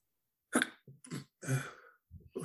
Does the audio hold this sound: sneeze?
yes